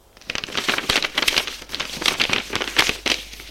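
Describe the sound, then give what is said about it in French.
In an elevator, a woman handles and crinkles a sheet of paper bearing algebraic formulas. The sound is a steady stream of crisp rustles and crackles with irregular bursts over a few seconds, with no voices. “Dans l'ascenseur, elle regarde le papier. C'est une feuille avec des formules algébriques.”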